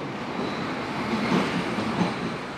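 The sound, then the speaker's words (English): A Berlin U-Bahn subway train rumbles steadily along the tracks, a dense, continuous roar with faint rhythmic clatter from the wheels, with no voices. “I'm in the Berlin subway, the U-Bahn.”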